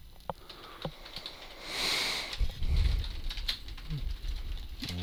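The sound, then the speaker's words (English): Someone typing on a computer keyboard: a few scattered, quiet keyboard taps and clicks over a steady background hiss, with a brief swelling rush and some low rumbling thumps partway through. “I think the problem is that this keyboard is getting funky.”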